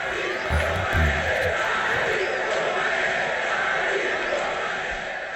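A large boxing arena crowd roars steadily on a hot, humid night of about 30 degrees before a match as a chant of "Ali Boumadje" starts to build, voices chanting the fighter's name over a dense, continuous wash of crowd noise, with a few heavier thumping pulses early on.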